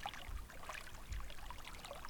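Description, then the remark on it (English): Water trickles and burbles steadily in a hot spring pool, a soft continuous splashing with no voices, holding an even, quiet level throughout. “The water is so nice.”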